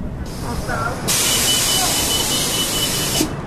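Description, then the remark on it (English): A school bus pulls up over low engine rumble, then its air brakes release a loud, steady hiss lasting a couple of seconds before cutting off abruptly. “The bus is coming.”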